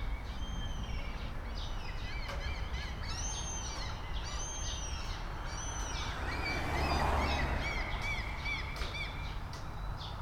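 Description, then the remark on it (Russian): Seagulls scream repeatedly over a steady wash of background noise, their harsh, rising calls overlapping in a busy chorus that continues throughout, with no one speaking. “Они так кричат. Они отгоняют всех.”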